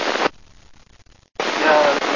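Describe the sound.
Loud radio static hiss cuts in briefly, drops to near silence for about a second, then returns steadily, with a faint, barely intelligible voice buried deep in the noise.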